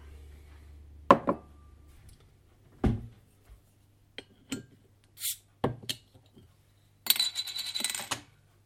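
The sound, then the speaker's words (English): A beer glass is taken out of a cupboard: a few sharp knocks and bright clinks spread over several seconds, ending in a short rattling jingle, with no one speaking. “So we're going to give that a crack. Get my best glass.”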